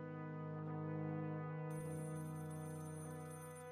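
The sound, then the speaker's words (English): A telephone rings steadily for several minutes in a flat, heard through wafer-thin walls, a sustained, bright electronic tone that carries through the whole moment, fairly loud, with no voices. “An hour later, as witnessed by the tenant of Flat 6, who had heard the phone ringing through the wafer-thin walls for several minutes.”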